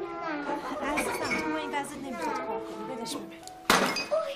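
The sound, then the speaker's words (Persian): Voices talk for several seconds, then a sudden loud crash of flowerpots smashing breaks in near the end, followed by a couple of smaller clattering impacts. “اینا همه گلدونا رو زدن شکستن.”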